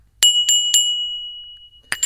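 A very small brass mortar, used for cumin, struck with its pestle: three quick metallic clinks in an even rhythm, a high bell-like ring lingering between them, then a fourth strike after a short pause.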